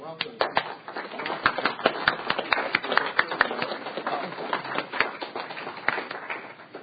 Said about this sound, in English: They're sitting here in the audience. If we could give them a round of applause, please.